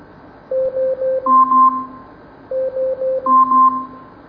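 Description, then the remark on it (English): An Amazon Echo smart speaker's 10-second timer alarm beeping: three quick electronic beeps followed by a longer two-tone chime, repeated twice in an even rhythm, clear with no voices. “Alexa, Set a timer for 10 seconds. 10 seconds, starting now.”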